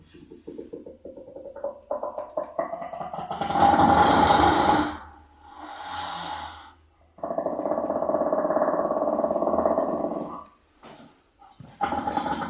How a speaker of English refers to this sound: So we usually associate these animals with laughing, but this sound is coming from a shaggy-coated brown hyena, the rarest of the hyena species.